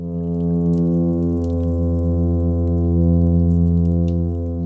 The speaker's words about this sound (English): sing by vibrating muscles against the side of the swim bladder, which in turn vibrate the surrounding water. And they can hum for up to an hour at a time.